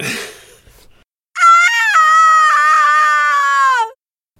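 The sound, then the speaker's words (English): The video game character Lara's death scream as she falls off something: a brief noisy rustle, a moment of silence, then one loud, sustained high-pitched scream lasting a few seconds and sagging slightly in pitch before cutting off. “So, the immense scream when Lara like falls off of stuff?”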